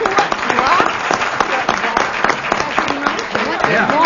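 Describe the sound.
An audience breaks into steady, loud applause that lasts the whole moment, a dense wash of many hands clapping with some voices and cheers rising through it.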